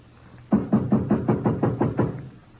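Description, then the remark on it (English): A steady run of eight firm knocks on a wooden door, evenly spaced and fairly loud, each a dull thud with a woody ring. No one speaks. “I will knock.”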